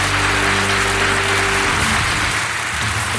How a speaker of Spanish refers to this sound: Maravilloso público, míralo, míralo, míralo, míralo, míralo. Pónchamelos, mira cómo aplauden.